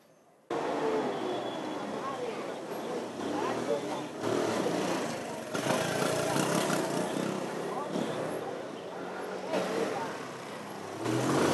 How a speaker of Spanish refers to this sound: Es una avenida estrecha, un cuello de botella para los buses, los taxis, las motos, los carros particulares y los de las empresas grandes que transitan por ahí.